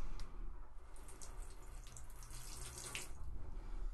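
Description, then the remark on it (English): Water being poured in a steady, continuous stream, splashing and gurgling for a few seconds with no talking. “So if you just pour it.”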